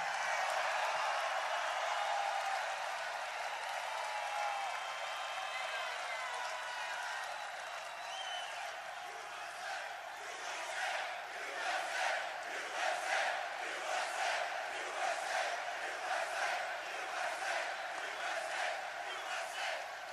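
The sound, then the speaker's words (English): A large crowd roars and cheers loudly, then falls into a steady rhythmic chant of "USA" with repeated pulsing beats, continuing at full volume with no single voice standing out. “As long as you're shouting, and I love to hear it, nothing nicer than USA.”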